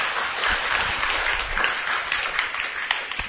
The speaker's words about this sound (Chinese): 感谢主哈，对不起，非常的精彩啊！我们掌声给他，谢谢，谢谢。